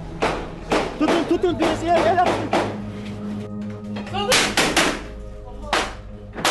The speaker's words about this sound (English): But the sound of heavy gunfire continues to envelop the ship.